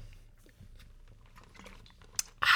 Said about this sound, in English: Wait, let me take a drink of water. I need to like cleanse my palate.